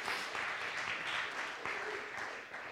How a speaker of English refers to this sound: Yeah, go ahead and give him a hand clap. Don't halfway there.